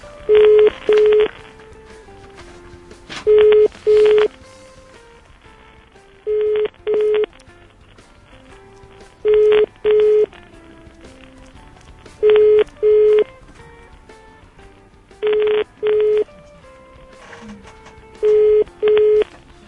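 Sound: telephone keypad dialing tones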